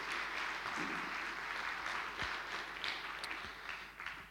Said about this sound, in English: A huge thank you to Joel Kettleton from Sorrel Anglican Church, who has put our sound and AV together for us this evening. Can you please give him a round of applause? Thank you.